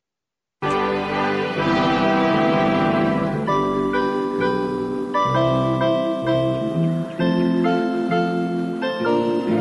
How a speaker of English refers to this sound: So I'm going to actually play some of this Glockenspiel music that is in the beginning. And it's kind of a different type of thing. It's like the Brady Bunch where you can kind of usually tell the tone of the show by the opening theme.